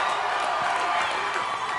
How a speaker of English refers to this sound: Forget work today. Just keep cheering, man.